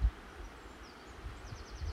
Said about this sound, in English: Apart from the sound of the birds in the trees, there's not much else to catch the ears.